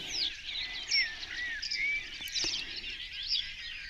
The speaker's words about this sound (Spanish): Es quizá por eso, por el silencio que reina en sus aguas, por lo que lagos y lagunas son uno de los sitios preferidos de los pájaros, pues así pueden oírse recíprocamente en sus cantos. Y con una escena musical de pájaros cantando en un lago